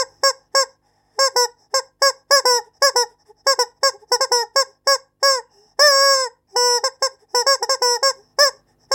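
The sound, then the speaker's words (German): A rubber chicken toy squeaks in rapid bursts of short, nasal honks, loud, with a longer drawn-out squawk midway and no talking. “Die charakteristischen Geräusche entstehen beim Gummihuhn durch eine spezielle Atemtechnik”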